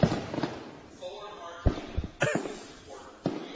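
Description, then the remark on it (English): A few muffled booms from a fireworks show go off at irregular intervals, each a short thudding burst, with faint voices murmuring underneath. The show is on a Wednesday, before 8. “And I'll tell you what, what's pretty cool is that there's a fireworks show going on right now.”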